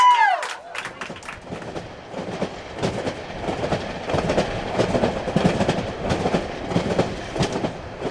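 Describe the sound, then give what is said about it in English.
A passenger train carrying climate activists toward New York rolls along the tracks, a steady loud rumble with repeated rhythmic clacks of wheels over rail joints, opening with a brief high-pitched squeal. “So I know that we're calling this the climate train.”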